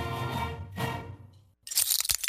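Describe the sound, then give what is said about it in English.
A low, steady humming tone cuts off, then glass shatters in a sudden loud crash, followed by a second of bright, scattered tinkling shards. “Uh-oh, sounds like you need some new glass.”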